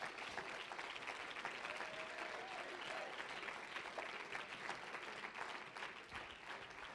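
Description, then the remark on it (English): A church audience claps hands unto God in praise for several seconds, a dense, continuous wash of many overlapping claps at an even, sustained loudness. “Let's clap our hands unto him.”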